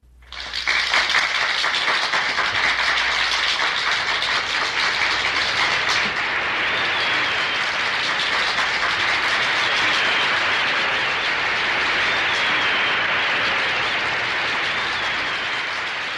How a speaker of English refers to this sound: Roughly 1 minute of applause closes out side one. And that's it. Side two is identical. It's the exact same thing again. A long track of silence, followed by about a minute-long track of applause.